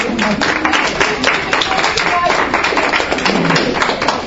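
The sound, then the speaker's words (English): An audience breaks into a round of applause for a participant's mother: many hands clapping in a dense, steady patter that stays loud and even for about four seconds, with a few voices faintly underneath. “But can we have a round of applause for your mother?”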